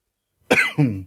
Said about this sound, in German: Entschuldigung. Bin ein bisschen erkältet. Kann sein, ich ab und zu mal huste.